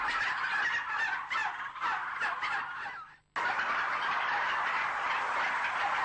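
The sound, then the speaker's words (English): A dense, continuous chorus of many turkeys gobbling and chattering at once in a crowded rearing shed, loud, with a brief drop in the middle before the crowded din resumes at full strength. “Whatever it says on the wrapper about being farm fresh or welfare friendly, what's shown here is the way most turkeys are reared.”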